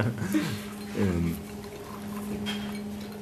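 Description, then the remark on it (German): Liquid pours over a few seconds, with a steady low hum and brief voiced murmurs mixed in, as a drink is poured and sipped during a toast. “Entschuldige bitte, aber wir müssten regelmäßige Trinkpausen haben.”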